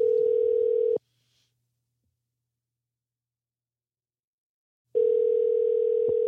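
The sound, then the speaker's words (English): A telephone ringback tone: a steady, fairly loud electronic buzz sounds for about a second, falls silent for roughly four seconds, then starts again. No one speaks. “I was waiting for it to start ringing.”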